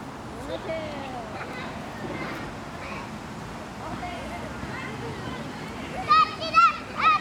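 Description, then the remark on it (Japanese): Children playing tag in an open plaza, a busy wash of young voices chattering and calling out, capped by several loud, high-pitched squeals near the end. “広場では子供たちが鬼ごっこをしています。”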